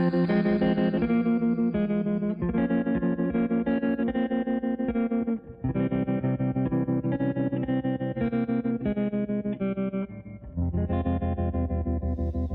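A pop song plays on France Culture radio, with an electric guitar strummed through a wavering tremolo effect, sustained chords pulsing steadily, loud and continuous with two brief dips, no voices.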